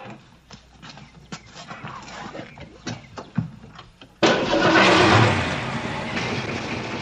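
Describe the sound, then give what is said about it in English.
A freshly painted car's engine sputters and clatters unevenly for a few seconds, then suddenly catches and roars to life, settling into a loud, steady running rumble. “Wait till you hear the engine.”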